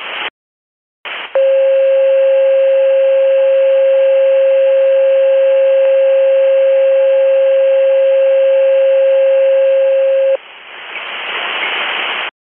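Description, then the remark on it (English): Fire dispatch alert tones, the box struck for station coverage on an active fire alarm at 2249: after a couple of brief bursts of static, a loud, steady mid-pitched tone holds unbroken for about nine seconds, then cuts off into radio hiss. “Striking the box for station coverage, 2249.”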